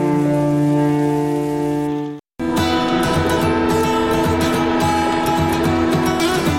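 A train in Switzerland rumbles along the rails with a steady droning hum, a brief drop to silence, then louder clattering and rattling over the continuing drone; no voices.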